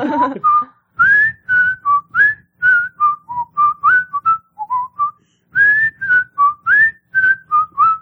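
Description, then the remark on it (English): A person whistles the Andy Griffith Show theme tune, a bouncy, familiar, steady melody of short rhythmic phrases with brief pauses, clear and fairly loud with no talking. “Can you whistle it?”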